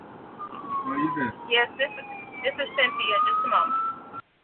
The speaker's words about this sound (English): There's a vehicle with the alarm. I'm sorry.